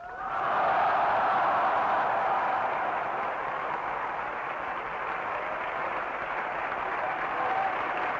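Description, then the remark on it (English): A large crowd before the town hall in Berlin applauds President Kennedy's 'Ich bin ein Berliner' speech in a steady, dense roar of clapping that swells quickly and holds loud and unbroken for several seconds, with no talking over it. “The applause seemed endless.”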